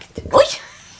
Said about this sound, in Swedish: Prosit. Prosit, gull. Sjukt gulligt. Med små mininysar alltså.